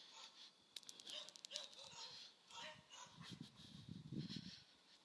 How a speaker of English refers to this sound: And I'm, oh my gosh, these stupid dogs, man.